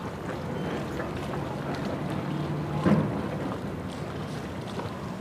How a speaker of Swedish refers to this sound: Nu har jag kommit ner här till Tainans industrihamn och jag står och tittar ut över vattnet som öppnar sig här utanför.